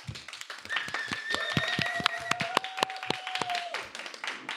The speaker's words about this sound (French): Nous sommes en public, on applaudit.